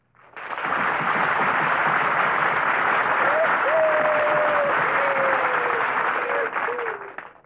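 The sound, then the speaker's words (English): Loud, sustained audience applause fills the whole stretch, a dense wash of clapping from a large crowd with a few faint whistles rising above it midway through. “Thank you very much for that applause.”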